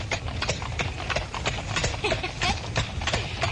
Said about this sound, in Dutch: Moet je mij zien. Alleen op de bok. Echte koets en een echt paard. Goed zo, Blackie.